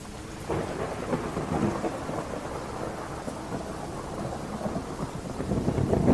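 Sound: thunderstorm with heavy rain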